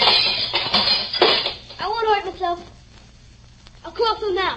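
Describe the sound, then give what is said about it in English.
Broken window glass is knocked loose in a few sharp, crunchy clinks and rattles, followed by short bursts of a young voice talking, with a quieter gap between them. “But knock out all the glass so you won't get hurt.”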